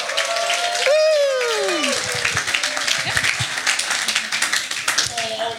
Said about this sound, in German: Gebt ihr einen Applaus.